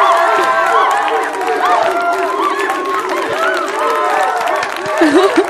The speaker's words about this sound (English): You should do the applause little thing. The monkeys? Yeah.